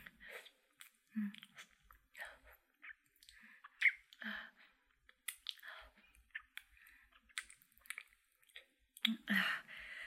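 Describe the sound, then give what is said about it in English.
Wet licking and lapping sounds of oral sex in an irregular series of soft smacks and squishy slurps, with brief pauses between bursts and no speech. “While I lap up all your sexy fucking juices.”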